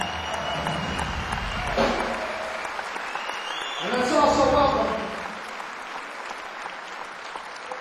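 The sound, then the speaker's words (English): At a blues music event in Worcester, an audience claps steadily for a young musician. It is a dense wash of applause that swells briefly about halfway through, while a man speaks over it into a microphone. “Nice round of applause.”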